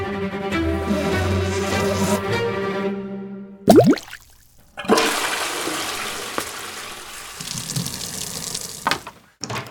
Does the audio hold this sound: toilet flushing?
yes